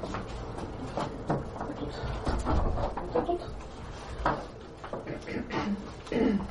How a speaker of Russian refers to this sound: Дверь на улицу закрою.